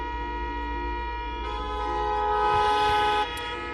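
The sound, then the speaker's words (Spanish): Hundreds of car horns blare at once in a traffic jam on the road into Murcia, Spain, about 5 km from the centre, a sustained, overlapping chorus with a steady low engine rumble beneath, the honking swelling louder for a moment before easing back. “Centenares de coches pitaban intentando que el atasco avanzara algo, sin poderlo lograr, claro.”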